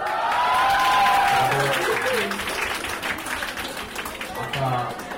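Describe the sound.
Students at Shinkwang Girls' High School in Yongsan, Seoul, cheer and applaud loudly in the school's small auditorium as the principal introduces an American visitor, with high-pitched shrieks and steady clapping that gradually eases off, with some voices rising again near the end.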